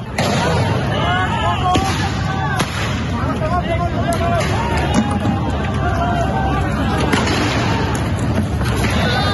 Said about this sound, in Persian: جوانان با پرچم‌های زرد و قرمز کاتالونیا و صورت‌های پوشیده به اطراف می‌دوند و به سوی پلیس سنگ پرتاب می‌کنند. پلیس نیز به سوی آنها گاز اشک‌آور شلیک می‌کند.